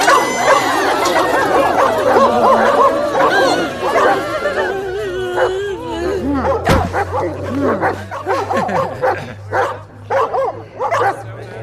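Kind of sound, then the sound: animal, dogs barking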